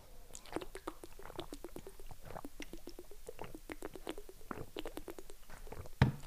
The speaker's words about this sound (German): Komm, wir machen nochmal alle zusammen eine schöne kleine Trinkpause und dann schweigen wir einmal nochmal 30 Sekunden. Also einmal eine Trinkpause.